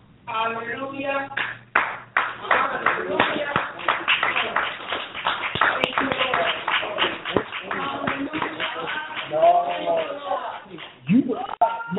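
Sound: audience clapping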